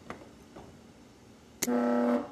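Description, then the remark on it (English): An organ reed pipe is test-sounded after its tongue is fitted, a gust of air from the keyboard making the tongue vibrate: after a few faint taps, a sharp attack opens into a loud, steady, buzzy low note rich in overtones, held for about half a second before stopping. “Then when the keyboard sends a gust of air through the pipe, the tongue should vibrate at the right frequency to get the sound you want.”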